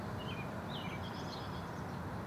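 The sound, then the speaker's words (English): Bird songs with a few short, high chirping phrases drift over a steady low rumble of outdoor background noise at Millennium Park in Chicago, by the Cloud Gate, as rain clouds move in. No one speaks. “Very similar bird songs.”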